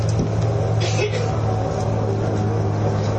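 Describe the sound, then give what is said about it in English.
A steady, fairly loud low rumble of road traffic going past during a General Assembly meeting, with a constant engine drone and broad hiss that holds at an even level for the whole stretch. “We're just waiting for that traffic noise to go by.”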